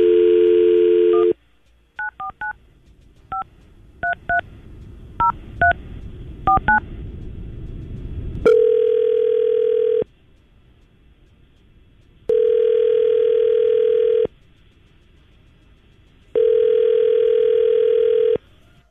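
A brief dial tone gives way to a quick series of touch-tone keypad beeps, then three evenly spaced ringback tones, each about two seconds long with pauses between, clear and close, as hosts at radio station 99.5 QIK phone a listener.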